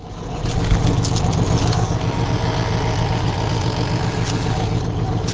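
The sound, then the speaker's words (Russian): A boat engine runs steadily, a continuous low rumble and chug with a faint watery hiss above it, holding an even level throughout with no voices, as the boat travels along the Baťa Canal in the Czech Republic. “Наверное, по звуку машины можно догадаться, что мы путешествуем.”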